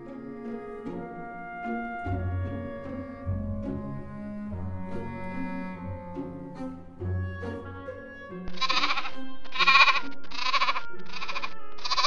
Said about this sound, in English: Good to Be a Kid by Ellie and Alicia, the baby goats.